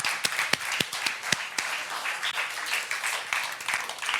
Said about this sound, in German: Ein Applaus für euch.